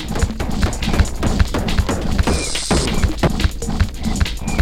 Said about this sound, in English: And that was a rattlesnake.